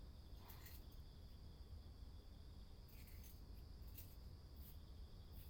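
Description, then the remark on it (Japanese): Bell crickets trill in autumn in a soft, steady high-pitched drone, with a few faint brief ticks scattered over a low background hum and no voices. “こちらでも鈴虫が鳴き始めていて、秋なのだなぁと感じております。”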